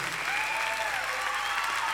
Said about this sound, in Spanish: Muchas gracias. Fuerte el aplauso.